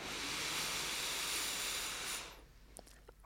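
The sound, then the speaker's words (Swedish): A long, steady airy rush of breath drawn in deeply through the nose for about two seconds, fairly loud, then stopping abruptly into quiet with a couple of faint clicks. “Så släpp ner axlarna, slappna av i ansiktet och ta ett djupt andetag in genom näsan.”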